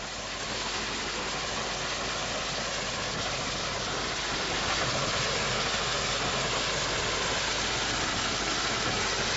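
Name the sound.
train engine running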